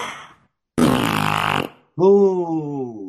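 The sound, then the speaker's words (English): A loud, raspy fart noise lasting about a second, then a brief pause and a drawn-out voiced sound that slowly falls in pitch. “You know, wind. Like...”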